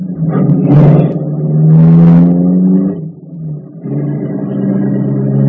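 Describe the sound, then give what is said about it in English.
A car engine revs hard twice in rising, throaty surges, dips briefly, then settles into a steady running drone as the vehicle pulls away to drive once around the block. “We'll drive once around the block now and hit the bank at 11:20 sharp.”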